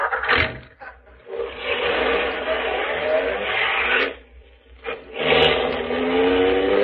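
A car engine roars at speed in a chase, a loud sustained rush with brief dips and surges as it accelerates again, continuous with no talking.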